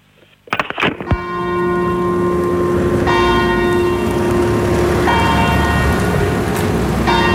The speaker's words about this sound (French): Bien ces petites cloches, hein, les cloches de la messe qui appellent à la messe en latin.